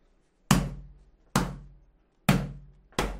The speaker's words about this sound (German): Ihr spammt noch ein bisschen die M-Begriffe und ich klopfe noch mal kurz auf den Stuhl.